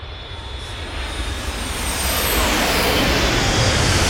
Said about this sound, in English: Ah, beautiful, whirlybirds. Yeah, lovely, lovely, good old helicopters there. And, very nice Black Hawk, very nice. Didn't have the turbo, but a nice little maneuver anyway.